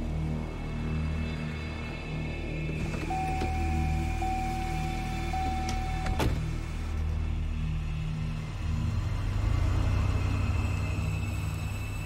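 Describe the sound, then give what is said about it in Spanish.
A car approaches and parks near a bridge, its low, steady engine rumble humming throughout and swelling slightly toward the end, with a thin high whine partway through and a single sharp click. “Whisky, Zulu, el piloto ve un auto aproximarse.”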